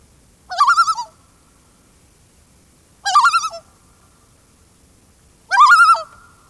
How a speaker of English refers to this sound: Let's go first with this initial tremolo call of the common loon.